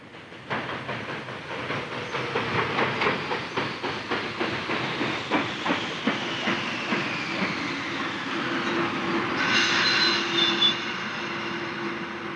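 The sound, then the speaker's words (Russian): A train rolls in with steady clickety-clack from the wheels that gradually slows, a thin metallic squeal running underneath, ending in a burst of hissing air as it comes to a stop. “Выйдя из вагона, застегнув ватное пальто и вдохнув влажный, полный солнечного тумана воздух”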